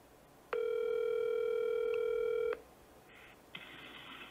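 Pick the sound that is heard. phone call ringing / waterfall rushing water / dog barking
phone call ringing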